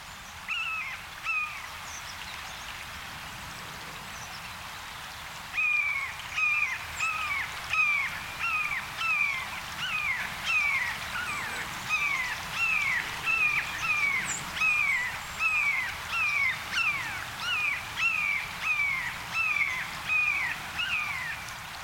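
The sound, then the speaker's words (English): Blue jays mimic a red-shouldered hawk with a long, steady series of loud, descending screaming calls, repeated rapidly over a faint outdoor background. There is no talking. “Jays mimic a red-shouldered hawk in the following recording.”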